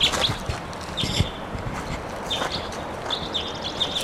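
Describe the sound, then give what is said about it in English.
A wild bird calls in short, high, thin whistled chirps that recur in several bursts over a steady noisy outdoor background, with a few soft low thumps mixed in. “There's a wild bird, I think.”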